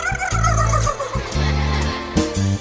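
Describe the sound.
A voice mimics a turkey's gobble in a song about imitating farm animals, a rapid, warbling burst of sound repeated a few times over a steady, loud musical backing.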